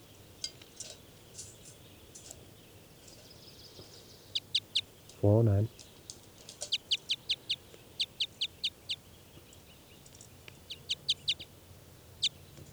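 Two birds trade short, high-pitched chirps in quick rhythmic runs, with one brief, lower, buzzy harmonic call midway through and faint background hiss.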